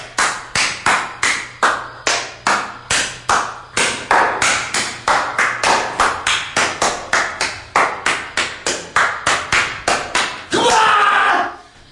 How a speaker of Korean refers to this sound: 깊은 밤, 고즈넉한 산사에 울려 퍼지는 속세의 박수 소리.